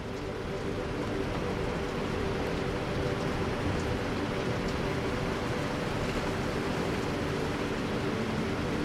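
Steady rain hisses evenly over a low, constant rumble of the distant Niagara Falls, a dense unbroken wash of noise with no voices or pauses.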